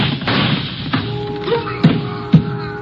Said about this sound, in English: The shots came from my left, and I can hear someone running along the pier.